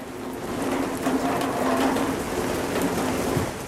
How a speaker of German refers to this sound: Graue Wolken hangen schwer über Struga und dem Ohridsee. Der Regen trommelt auf das Vordach des Gemeindehauses.